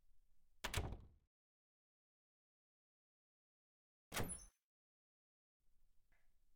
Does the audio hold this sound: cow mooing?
no